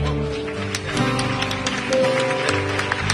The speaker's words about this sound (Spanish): Mi aplauso para todos.